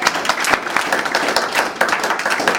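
A crowd applauds steadily for Derek and Kim Woodbine, who are absent, many hands clapping at once in a dense, continuous patter that stays fairly loud throughout, with no voices standing out.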